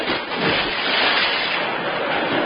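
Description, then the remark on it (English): A loud splash of a man plunging into a river, followed by a steady rushing churn of water that holds strong for a couple of seconds with no voices. “that river was full of naughty water.”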